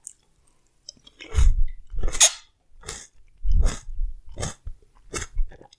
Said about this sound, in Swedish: Nu kör jag en körsbärstomat med stängd mun hela vägen.